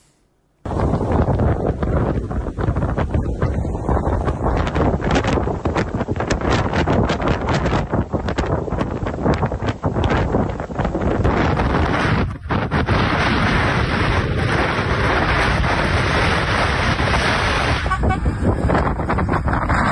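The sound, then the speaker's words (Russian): Strong blizzard wind in Ukraine's Odesa region roars steadily and loudly, buffeting the microphone with heavy rumbling gusts, while traffic noise lingers faintly underneath throughout. “В Украине сегодня бушует метель, она началась с юга и больше всего задела Одесский регион.”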